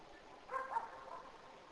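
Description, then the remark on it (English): A neighbor's dog to the south, by Owl Canyon, barks a couple of times at night, faint and brief against a quiet outdoor background, with no one talking. “Dog is my neighbor to the south.”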